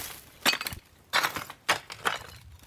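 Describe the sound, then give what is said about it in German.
Broken clay roof tiles lying around a villa at Tannenbergallee 28, whose roof has been stripped, crunch under a visitor's feet in about four uneven steps, each a gritty, clinking burst of shards grinding together, with short quiet gaps between and no voices. “Rund um die Villa liegen Ziegel und knirschen Tönern unter den Füßen des Besuchers.”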